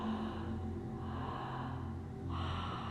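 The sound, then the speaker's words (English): A breathing exercise demonstration: smooth, steady, rhythmic breathing, almost like Ujjayi, with the inhale split in two parts: a long airy inhale, a brief pause, then a second breath that picks up again. Heard alone with no talking. “So it's a smooth, steady, rhythmic, almost like Ujjayi, but split the inhale into two parts.”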